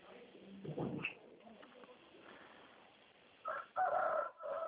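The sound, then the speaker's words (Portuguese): A rooster crows with a drawn-out, wavering call near the end, following a brief muffled thump and quiet background murmur. “Até o galo gostou aí, ó”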